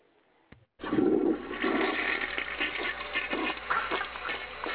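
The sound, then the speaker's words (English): A toilet flushes loudly after a brief click, the rushing, gurgling water swelling suddenly and churning steadily for several seconds with no voices. “Flush me.”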